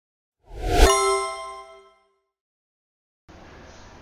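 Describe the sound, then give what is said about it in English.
A single bright bell ding strikes sharply and rings out with clear overtones, decaying over about a second and a half before silence and a soft hiss of noise. “So that there's a bell if we come up with something new.”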